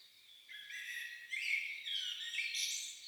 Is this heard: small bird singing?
yes